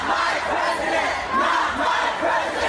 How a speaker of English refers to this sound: Radical protests storm Washington. Far-left extremists demanding their way or the highway.